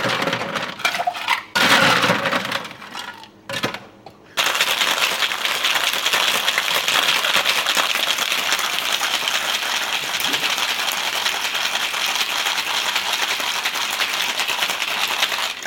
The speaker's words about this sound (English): Yeah, we need to shake very well because this cocktail must be very, very cold. Ah, of course, that's why you're shaking it over the ice cubes, yeah? You're shaking it to cool it down